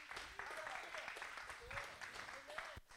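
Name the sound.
audience clapping hands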